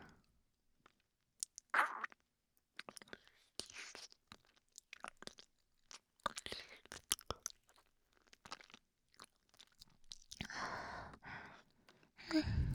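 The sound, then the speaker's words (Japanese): Wet licking and sucking mouth sounds in irregular bursts of smacks and slurps, with soft breathy pauses between and a louder, longer stretch toward the end. “じゃあ、もっかい、ペロペロ、チューチューするね。”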